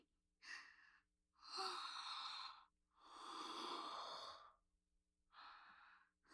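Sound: yawn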